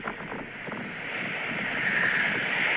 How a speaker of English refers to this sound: the waves are smashing against the rocks with quite a force, leaping up into the air as they shatter.